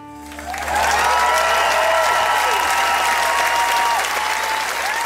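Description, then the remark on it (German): A large concert audience applauds the last performance of a crossover and world music artist, building quickly within the first second into sustained, dense clapping with crowd cheers and whistles that carries on steadily to the end. “Applaus für den letzten Auftritt des Crossover-Meisters und Weltmusikers”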